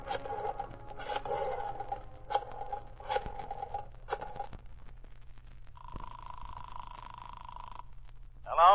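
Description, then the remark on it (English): A series of short mechanical clicking bursts as a waiter dials a number on the phone in a butler's pantry, followed by a steady electronic ringing tone on the line, moderately loud. “The waiter quickly went to the phone in the butler's pantry and, making sure he wouldn't be overheard, dialed a number...”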